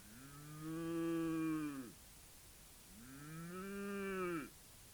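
Two long, loud cow moos, each a drawn-out, rich lowing call that sags in pitch at the end, separated by a short pause, with no talking.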